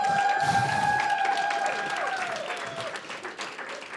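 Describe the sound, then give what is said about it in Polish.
A church crowd stands and claps steadily for several seconds to welcome a guest, a dense sustained applause with a couple of held high tones ringing over it, gradually thinning toward the end. “Porozmawiamy sobie dzisiaj z kimś bardzo cennym w tym kościele, z kimś bardzo ważnym i chciałem na początku, żebyśmy wszyscy wstali i przywitali tą osobę oklaskami.”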